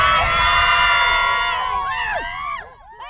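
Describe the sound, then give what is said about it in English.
A sports team screams and cheers together on command, loud, a sustained chorus of high-pitched yells that break into rising and falling whoops before fading out. “Who's going to get the D? Sirens! Let me hear you scream!”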